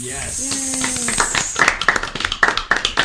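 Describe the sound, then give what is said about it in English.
A brief cheerful vocal exclamation gives way to a short round of applause for the moms. A few people clap in quick, slightly uneven bursts that stay fairly loud until the end. “Claps for moms.”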